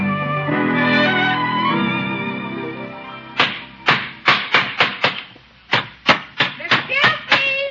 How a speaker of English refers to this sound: Is that you hammering away? Yep. I'm building a little house for the puppy.